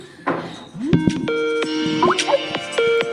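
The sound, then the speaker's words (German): The Skype ringtone melody plays from a phone as a jingle, a series of bright, bouncy tonal notes with a rising swoop, sounding clear and fairly loud with no talking over it. “Wir skypen nämlich immer. Deswegen die Skype-Melodie.”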